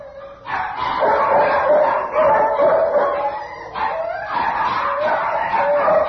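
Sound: dogs barking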